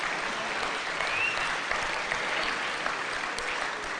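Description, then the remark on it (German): Steady audience applause fills the whole stretch, a dense, even patter of many hands clapping at moderate loudness with no one speaking over it. “Wenn ich warte, warte ich nicht auf euren Applaus, sondern hoffe, dass das in euer Herz fällt.”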